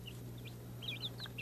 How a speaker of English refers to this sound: Chicken.